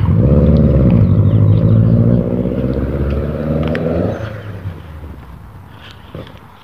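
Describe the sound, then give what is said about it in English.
A loud car engine rumbles as the car drives around a neighborhood, its harmonic drone climbing in pitch before dropping abruptly each time the driver shifts gears, then fading as the vehicle pulls away. “Every time the guy shifts, it makes this sort of sound.”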